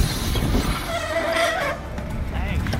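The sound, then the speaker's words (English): A thin, high squeal from plastic bicycle brakes, as a cyclist riding home from work stops at a traffic light, rises for about a second over a steady bed of street and traffic rumble, then fades while the noise continues. “Those brakes are plastic. They don't sound so good.”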